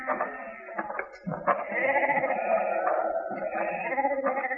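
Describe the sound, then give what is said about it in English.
Sheep from a lone herder's flock bleat loudly and continuously, several overlapping wavering calls forming a sustained chorus with no talking. “He's your sheep?”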